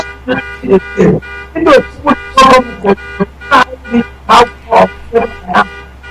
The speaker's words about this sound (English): Yes, there is a car alarm going off. Please, we may have to take a very short break. It stopped now. It's an alarm.